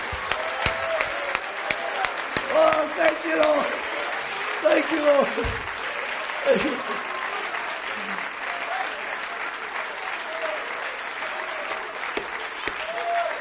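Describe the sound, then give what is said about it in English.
A church audience gives the Lord a hand clap, breaking into sustained applause, dense hand clapping filling the full clip at a steady loud level, while a voice calls out thanks over it in the first several seconds. “Well, let's give the Lord a hand clap for him.”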